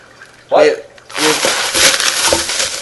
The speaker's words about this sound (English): Wait, wait, wait, rustling in the bag.